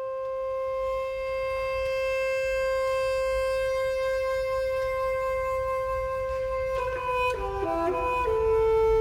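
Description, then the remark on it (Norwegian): A high solo bassoon plays the extremely demanding, high-pitched opening solo of an orchestral piece. It holds one long, reedy note for several seconds, then slides into a short winding melody as other soft orchestral instruments quietly join underneath. No one speaks. “Dette en legendarisk åpningsscene av det hele, nemlig ekstremt krevende solo for fagottisten.”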